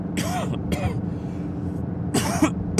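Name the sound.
cough and throat clearing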